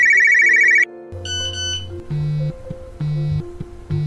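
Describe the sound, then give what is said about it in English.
A Nokia flip phone ringtone plays loud and close, opening with a fast warbling trill, then a bright electronic melody of stepped notes over pulsing low tones, with no talking. “Mark Anthony Kay was raised by a single mom with a little help from a Nokia flip phone.”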